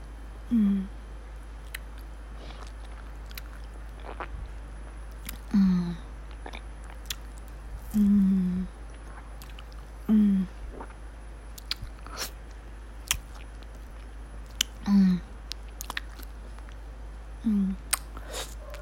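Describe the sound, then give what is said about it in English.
Soft, wet bites and squishy mouth sounds from someone eating a soft, popsicle-like ice cream on a stick, about seven short smacking bursts at a steady pace, with faint clicks in between and no talking. “It's like soft ice cream on a stick.”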